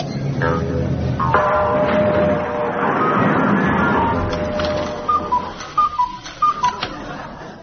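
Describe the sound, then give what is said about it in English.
A steady, loud station clock ticking sets in after a blurred wash of tonal, whistle-like sound, its crisp ticks evenly spaced at roughly a few per second until the end. “Meanwhile, the station clock ticked relentlessly on towards 0 hour.”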